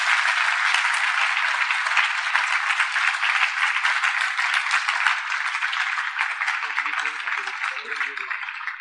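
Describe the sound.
A large audience at a festival applauds Maharaj loudly and steadily for several seconds, a dense wash of clapping that holds at full strength, with faint voices surfacing near the end.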